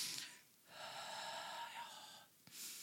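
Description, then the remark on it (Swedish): A demonstration of shallow chest breathing: quick, breathy gasping inhales at the start and end, separated by a longer airy, slightly wheezy breath. No one speaks. “Och är man här uppe och andas så är lite där.”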